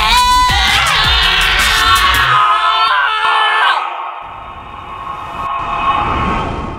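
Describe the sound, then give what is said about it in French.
A loud, sustained roar of terror from a dreadful shadow escaping a character's body, a harsh, shrieking cry layered over a deep rumble. It wavers and slides in pitch, then thins into a long, droning wail that fades slightly. “Une ombre épouvantable, stigmate de l'eau brillant, s'échappe du corps de Vera dans un rugissement de terreur.”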